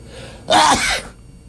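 human body sound, sneezing

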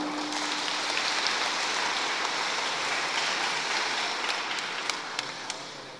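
crowd, loud round of applause

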